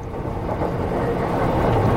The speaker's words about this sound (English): It's kind of hard to find just the train noises because at most stations, you will hear a distinct melody.